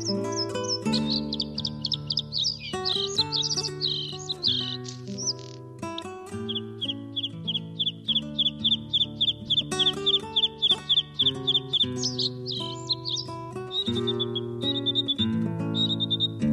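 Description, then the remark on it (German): A bluethroat sings in a clear, varied stream of rapid chirps, trills and repeated ticking notes, continuous, over a low sustained background hum. “Das war das Blaukehlchen.”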